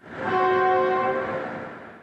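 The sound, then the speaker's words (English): The whistle of the overnight train from Basra in Baghdad, Iraq, blows one sustained, chord-like blast that swells quickly and fades over about a second, leaving a broad rumble of rail noise behind it. No voices are heard. “That train whistle is a powerful signal that things may be getting back to normal in the Iraqi capital.”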